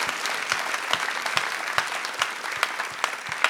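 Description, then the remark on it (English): A small group claps steadily, with a dense patter of hand claps and a few sharper, louder claps standing out at irregular moments. No one speaks over it. “Let's clap for that.”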